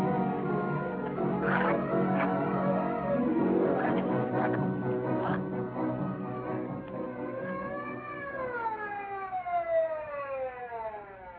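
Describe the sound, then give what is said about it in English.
An ambulance siren wails loudly in rising and falling sweeps as the ambulance arrives, following a stretch of busy, clattering noise at the start. “Twenty minutes later, the ambulance arrived.”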